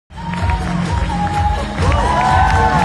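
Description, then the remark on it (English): A large crowd applauds and cheers for Cayman mixologist Cody Wright, dense clapping blending with whoops and raised voices that swell louder toward the end, filling the space with sustained, lively noise. “Massive applause there for Cayman mixologist Cody Wright, who was recognized at this year's Young Chef, Young Waiter, and Young Mixologist competition in London, winning the award for Best Team Player.”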